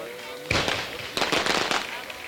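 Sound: fireworks display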